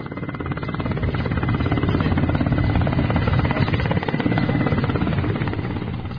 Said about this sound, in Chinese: 昨天7月16号上午，达赖喇嘛尊者从拉达克首府列城乘坐直升飞机抵达桑斯卡地区